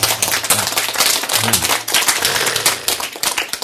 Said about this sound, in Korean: 박수.